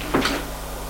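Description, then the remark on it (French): A short mechanical click and rattle as someone quietly turns a door handle, followed by a brief creak as the unlocked door opens, over a steady low hum; no one speaks. “la fait tourner, la porte est ouverte.”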